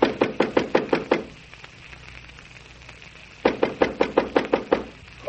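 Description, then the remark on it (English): Two bursts of firm, rapid knocking on a wooden bedroom door in a London house at five o'clock in the morning, about seven raps each, separated by a few seconds of quiet. The knocks sound fairly loud. “Please open the door.”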